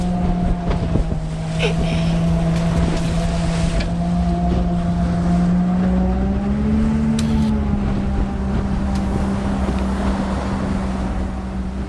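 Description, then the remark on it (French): A motorboat engine drones steadily for the whole stretch, its pitch rising slightly midway, with wind buffeting the microphone and water rushing beneath; the boat carries a diving expedition team away from land. “Maintenant que le matériel est prêt et que l'équipe est en place, il est temps de quitter la terre ferme. À bord du bateau, le paysage défile”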